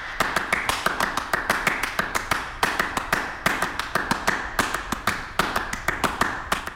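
Rapid, rhythmic foot stomps by a performer on a square, deliberately slightly wobbly wooden stage holding stacked chair constructions, a steady stream of sharp percussive impacts in quick succession, even in loudness, with no voices.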